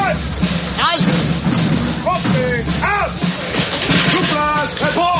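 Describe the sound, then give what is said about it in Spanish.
A loud, dense battle reenactment in the streets of Madrid with booming cannon blasts and scattered gunshots, nearly drowned out by troops shouting and yelling in French over a constant low rumble. “Escucharemos disparos, cañonazos y los gritos de las tropas en francés.”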